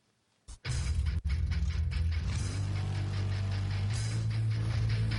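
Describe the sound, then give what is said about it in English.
A car engine cranks with a brief burst and a short break, then catches into a loud, steady low rumble that swells and climbs in pitch as it revs, with no voices. “Oh, car sounds.”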